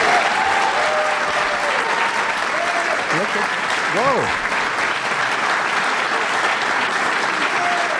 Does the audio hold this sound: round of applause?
yes